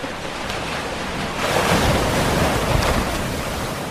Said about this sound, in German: Das Erste, was einem auffällt, ist diese Einsamkeit. Außer Meeresrauschen und das gleichmäßige Schlagen der Wellen nichts.